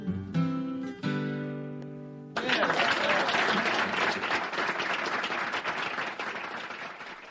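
A song's final sustained chord rings out briefly, then a live audience bursts into loud, steady applause that carries on for several seconds, dense and continuous with scattered cheering.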